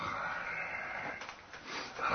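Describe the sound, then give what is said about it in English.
A low, raspy growl like a dog's rumbles steadily for about two seconds, dipping briefly before swelling again at the end, fairly loud with no talking. “Yes, there's a growling.”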